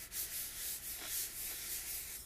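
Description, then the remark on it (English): Steady scratchy rubbing across the rough cover of the book Daughter of the Siren Queen, a continuous dry hiss with slight back-and-forth swells, fairly quiet and with no talking. “It's, like, rough.”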